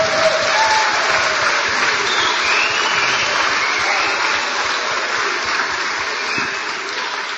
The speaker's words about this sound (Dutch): U heeft natuurlijk eerder in de dienst, hebben jullie ook het kinderkoor gehoord. En ook daarvoor vraag ik een heel hard applaus.